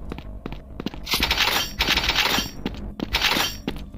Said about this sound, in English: Look how big those fucking shells are. They ring when they drop to the ground.